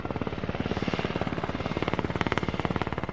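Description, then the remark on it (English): A helicopter roars steadily as it flies to a tiny U.S. Army outpost near the village of Sapahay, its rotor blades chopping in a rapid, even thumping rhythm over a heavy engine drone. No voices are heard. “Karim John recently traveled by helicopter to a tiny U.S. Army outpost near one such village”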